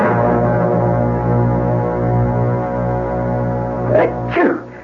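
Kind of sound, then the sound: human body sound, sneezing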